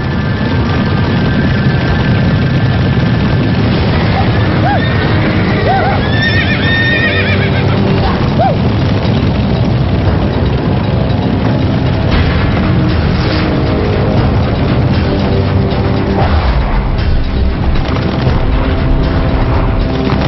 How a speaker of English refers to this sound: After centuries roaming the plains, they're wild and easily spooked. Teddy Blue hears what every cowboy dreads. Stampede.